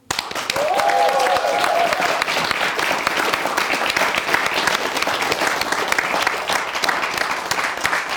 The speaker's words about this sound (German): der Kreativdirektor, der sich alles ausdenkt und versucht, das hier irgendwie in die Bahn zu leiten, dass auch das Publikum klatscht